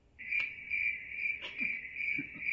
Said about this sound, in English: That's all you got. Crickets.